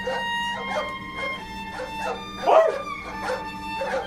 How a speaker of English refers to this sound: But he could hear the men and dogs in the distance. They weren't too far off